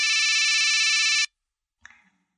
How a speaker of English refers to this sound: Do you hear that sound? The phone is ringing. My first call.